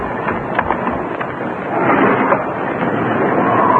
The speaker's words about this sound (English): The wind's come up.